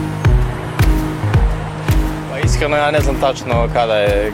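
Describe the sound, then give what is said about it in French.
Traffic on one of the most congested boulevards of Belgrade, with a steady low engine rumble and regular thumping knocks from passing vehicles; indistinct voices rise over the noise in the second half. “Sur l'un des boulevards les plus embouteillés de la capitale”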